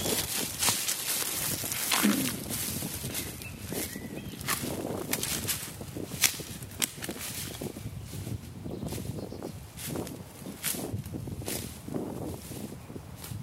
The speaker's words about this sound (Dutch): Maar dan ga ik eerst nog weer een stukje lopen.